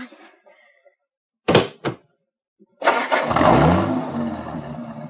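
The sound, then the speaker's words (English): A Cadillac's car door slams twice in quick succession, two sharp thuds, then after a brief pause the engine cranks and starts, settling into a steady rumbling idle. “Look, a Cadillac with keys. Oh. Here's where we ride in style, baby. Come on, climb in.”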